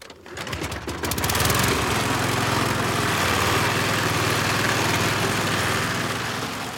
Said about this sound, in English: Man starts up lawnmower.